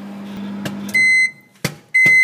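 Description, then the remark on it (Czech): A microwave oven finishes: its low running hum cuts out with a click, followed by two loud, steady high-pitched electronic beeps separated by a sharp clack. “A nebo jakmile to cinkne. Schválně si poslechni.”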